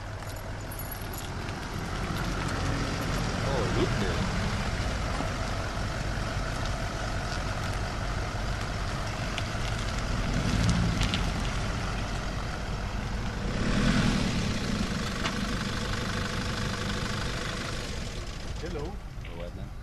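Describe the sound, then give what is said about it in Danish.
The engine of a heavy armored car in Kosovo, weighing over 4 tons, with thick glass and armored steel, runs steadily and loudly, a continuous low rumble with a broad mechanical roar that swells slightly a few times, with voices faintly underneath. “Det er sådan, de er simpelthen så, altså de vejer kraften over 4 tons, de biler der, så man skal have stort kørekort for at køre i dem.”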